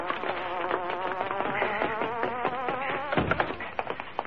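The Hornet's car engine gives off a steady, insect-like buzzing hum, its pitch warbling up and down continuously, briefly dipping before resuming, with no voices.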